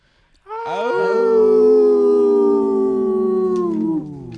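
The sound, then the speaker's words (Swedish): Several people howl together like wolves, their overlapping voices holding long, loud tones that glide slightly downward for about three and a half seconds before cutting off. “Ska vi ta vårt innan du spelar den, ska vi ta vårt och säga hej då till vår publik med vårt howl, och så kan du väl presentera vilken låt det är som avslutar.”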